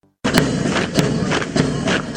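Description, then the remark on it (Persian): Rhythmic, heavy footfalls of a line of police, including women, marching in military drill in Ghor province, Afghanistan, a steady series of sharp stamping impacts over a constant rumble of background noise, with no voices. “صدای قدم های است که برای تمرینات نظامی برداشته می شود.”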